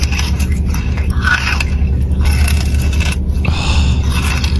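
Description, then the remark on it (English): Loud crunching and chewing as people bite into viral chocolate bars made in Dubai, in sound clips from content creators, with repeated crisp snaps and scraping textures running continuously for several seconds and no talking. “It's the crunch of people consuming these amazing chocolates.”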